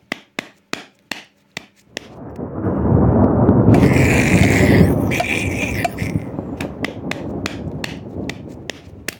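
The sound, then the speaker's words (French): Five sharp, ringing clangs of a ladle banging on a saucepan in a kitchen, then a long thunderous roar that slowly fades, with more quick metallic strikes continuing over it. No talking. “Le bruit de la louche sur la casserole résonne comme le bruit du tonnerre.”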